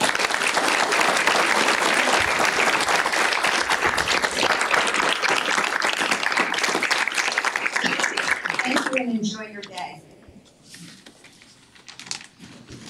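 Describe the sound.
Sustained applause from an audience, a dense, loud patter of many hands clapping that fades out after about nine seconds as a voice begins speaking over the last scattered claps.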